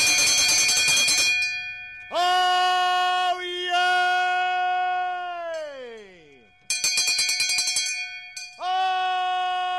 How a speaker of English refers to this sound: No one makes an entrance like a man in colonial costume clanging a big brass bell. It's a rainy Saturday afternoon, and a crowd of about 100 sit on folding chairs under a white tent facing a stage.